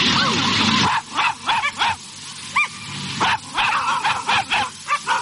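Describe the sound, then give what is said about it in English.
About 30 dogs of all shapes and sizes, with their owners, bark and yip in quick, uneven bursts outdoors at a demonstration outside State Parliament against the use of pets in laboratory experiments, overlapping one another after a brief noisy rush at the start, with a crowd murmur faintly underneath. “about 30 dogs and their owners have demonstrated against the use of pets in laboratory experiments.”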